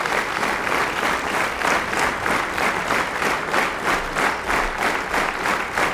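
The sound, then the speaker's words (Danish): Steady applause from a sizable audience, many hands clapping at once in a dense, continuous wash with a slight rhythmic pulse, sustained throughout. “Altså, sådan som jeg forstår det, når nogen fortæller om det der med at klappe, så er det også en social ting.”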